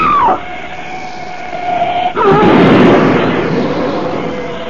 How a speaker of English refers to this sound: That ugly black shape, it smashed Butler's car to bits as though it were an eggshell.